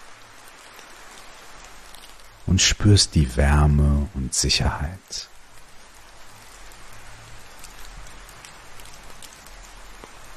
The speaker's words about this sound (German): lauschst dem fernen Regen